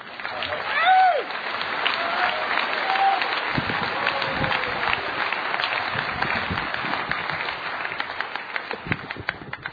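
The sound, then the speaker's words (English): A large crowd applauds steadily as a speaker from Florida is introduced. Dense clapping fills the space at a loud, even level, with a few whoops and whistles rising briefly near the start. “My God, what an awesome crowd.”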